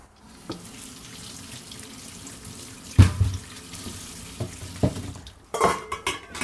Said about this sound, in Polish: Opłuczamy warzywa.